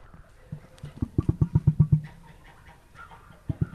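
Emus, tall ostrich-like birds, calling back and forth on a farm just outside Columbia in Central Missouri, with deep, hollow thumping pulses: a quick rhythmic run of about a dozen low booms that swells, fades, then returns briefly at the end. No talking.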